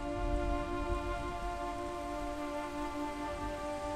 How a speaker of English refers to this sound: Ice on Wedigo Arm of Pokegama Lake went out completely this a.m. Driving rain will eliminate the rest. Driving rain will eliminate all the rest by dusk tonight.